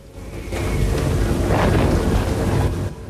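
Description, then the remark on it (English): A loud roll of thunder during a night-time lightning storm bursts in and rumbles heavily for a few seconds, deep and broad, before cutting off abruptly. No voices are heard. “Lightning flashes, illuminating her naked back.”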